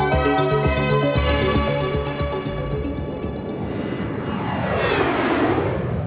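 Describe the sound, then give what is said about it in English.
A small propeller plane's engine drones steadily and loudly with no one talking, its buzzing pitch shifting toward the end as the aircraft passes by overhead. “Millions of commuters take to the sky each year, not on large jetliners, but on a variety of smaller craft, from a single-engine propeller-driven two-seater plane to a multi-passenger corporate jet.”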